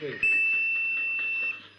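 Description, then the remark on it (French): A single sustained, piercing whistle blown from the tip of a bull's horn holds one steady high pitch for over a second, loud, with faint background noise underneath. “La pointe de la corne du taureau, un sifflet.”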